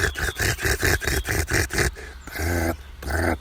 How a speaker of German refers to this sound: Die Nachtigall. So ein Schnarren hat die. Und es war sehr hektisch. Die Alarmrufe waren sehr hektisch. Dicht aneinandergereiht. Intensiv.